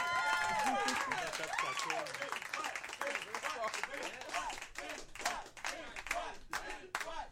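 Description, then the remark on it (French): A crowd breaks into steady applause, dense clapping that holds at a loud, even level, with high cheers and whoops rising over it early on and sharper individual claps standing out toward the end. “On les applaudit!”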